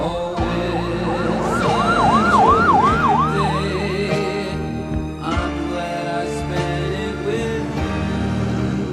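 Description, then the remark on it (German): An ambulance siren from the film scene in which Renton accidentally overdoses and is taken away by ambulance wails in rapid rising-and-falling sweeps for a few seconds, loud, over a dense backdrop of traffic or music, then fades into the continuing noise. “doch dann in der Szene, als Renton sich aus Versehen eine Überdosis spritzt und er mit dem Krankenwagen abgeholt wird,”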